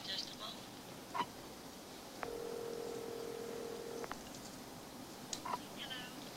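Telephone tones as a woman picks up the phone and dials a number with area code 212: a short beep, then a steady electronic tone lasting about two seconds, and another brief beep later, all fairly quiet over a low background hiss.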